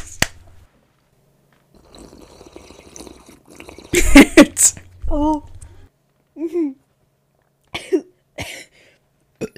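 coughing

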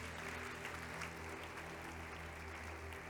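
audience applauding

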